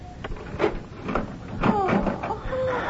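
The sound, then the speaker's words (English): A key clicks and rattles in the lock of a locked room door, followed by the creak and thud of the door swinging open, moderately loud, with faint vocal sounds in the background. “Is the door locked? Oh, yes. The key is here somewhere.”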